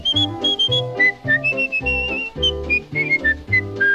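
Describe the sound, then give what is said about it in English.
A person whistles a bright, steady tune in short melodic phrases, sounding clear over a bouncy instrumental accompaniment, with no talking. “Just wiggle your finger, put it on your nose, grab your ear and whistle.”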